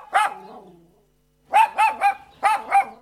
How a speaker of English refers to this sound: his yappy little friend.